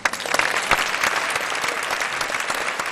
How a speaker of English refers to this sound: And there it is, an applause well deserved.